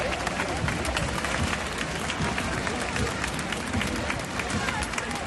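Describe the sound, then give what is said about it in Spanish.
A crowd claps and cheers steadily throughout, a dense, continuous wash of applause with scattered shouts rising over the noise at a military parade in Spain, applauding the King and Queen of Spain. “Aplausos y vítores que contrastan en gran medida con la pitada que se ha llevado el presidente del gobierno, Pedro Sánchez, tanto a su llegada como a su salida.”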